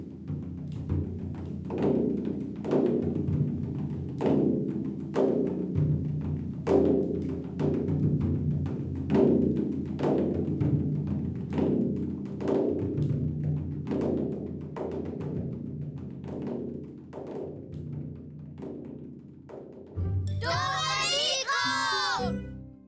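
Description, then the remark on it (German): Ten children drum their own heart music together in loose, overlapping heartbeat-like beats, a dense patter of thumps over a low rumble; near the end a child's high voice cries out. “Und was passiert, wenn 10 Kinder auf einmal ihre eigene Herzensmusik trommeln? Das ist dann wie ein Regen.”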